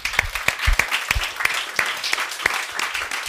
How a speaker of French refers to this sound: Chantal, elle est où Chantal? Chantal, bien, est-ce qu'on peut applaudir Chantal?